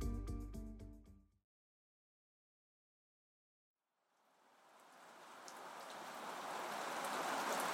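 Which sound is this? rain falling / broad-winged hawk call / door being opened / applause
rain falling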